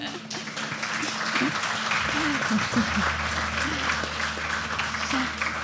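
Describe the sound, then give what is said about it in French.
A crowd applauds the moderator of a panel steadily for several seconds, a dense, even wash of clapping at a fairly loud level, with a few voices murmuring faintly underneath. “Je sais que c'est pas facile, donc merci à toi, on peut t'applaudir aussi.”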